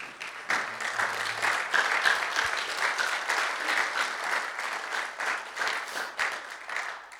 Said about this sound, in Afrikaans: Kom ons staan sommer. Gee hom 'n lekker hande klap.